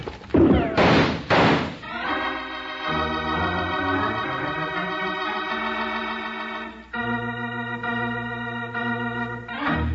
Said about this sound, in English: Yank open the door, Jingles, and duck.